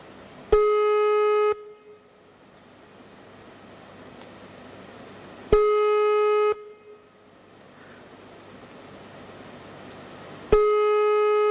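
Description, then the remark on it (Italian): A telephone ringback tone rings three times while a call to a woman goes unanswered: steady, slightly buzzy one-second beeps separated by about four seconds of faint line hiss. “Non risponde, non vuole rispondere.”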